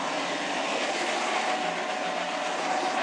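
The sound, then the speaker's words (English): A Magimix food processor motor runs loudly and steadily, a continuous rushing whir with no change in pitch and no pauses throughout. No one speaks over it. “You probably can't hear it dripping out because the Magimix is too loud.”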